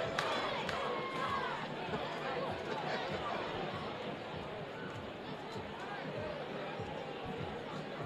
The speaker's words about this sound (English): Good Thursday night crowd on hand, getting into it for the first time tonight.